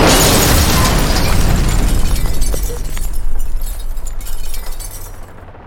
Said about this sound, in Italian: Chiudo gli occhi mentre sento il mio corpo sbalzare e i vetri frantumarsi. La macchina tenta di ristabilirsi, ma sbatte di nuovo. E poi, finalmente, si ferma.